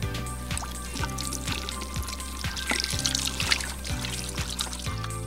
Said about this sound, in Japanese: さあしっかりと水で手を洗えました。